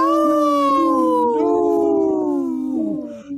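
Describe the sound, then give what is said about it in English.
A single long, mournful wolf howl holds steady and clear, sliding slowly downward in pitch over several seconds with rich harmonics, ending in a brief wavering break. No one speaks. “In this portion of the show, we like to bring awareness to our Minnesota wolf population.”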